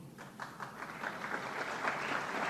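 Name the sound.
applause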